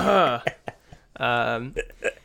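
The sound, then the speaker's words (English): A person vocally imitates coughing as Foley work: a drawn-out throaty voiced sound, a couple of short sharp bursts, another long strained vocalization, then a few quick breathy coughs, fairly loud throughout. “Hold on, I have to do Foley work of what a cough sounds like.”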